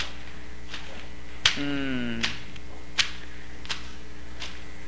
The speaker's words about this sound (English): With these big, heavy whips. Floggers.